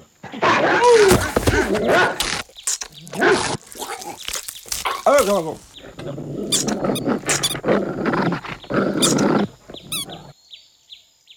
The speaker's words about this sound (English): Sadly, Tim the postman was mistaken for a chew toy by a local rabid dog.